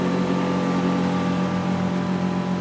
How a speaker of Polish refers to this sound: To jest łódź motorowa, z takich większych już, co już trzeba mieć pozwolenie uprawniające do pływania.